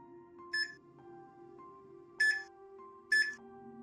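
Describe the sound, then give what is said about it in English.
Three short, bright electronic beeps from a house's security alarm keypad at the back door to the garage as someone enters the disarm code, spaced unevenly like buttons being pressed, sounding over a steady low humming drone in the background. “There's a security keypad to the alarm at the back door that led to the garage, and it started beeping in a manner that suggested someone was trying to enter the disarm code.”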